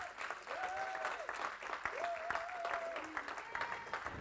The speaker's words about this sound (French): Donc, est-ce que les futurs baptisés, au moins ceux qui sont là aujourd'hui, est-ce que vous voulez vous lever ? Bon, c'est intimidant un peu, mais on peut les applaudir.